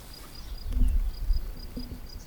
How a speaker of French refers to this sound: Des insectes. Des oiseaux. Mouches. Du vent. Grillons. Mouches.